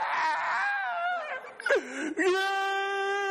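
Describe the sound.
A voice imitates a shrill parrot heard in Honduras mimicking a crying baby: a few seconds of drawn-out, wavering wails with a sliding pitch, loud and harmonic, breaking into a rising cry toward the end.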